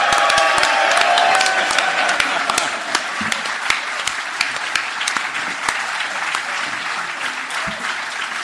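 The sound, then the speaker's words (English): A theatre audience at the Leicester Square Theatre applauds warmly and steadily for several seconds, dense overlapping claps with a few sharper individual claps standing out, fading slightly toward the end. “It was a very warm round of applause.”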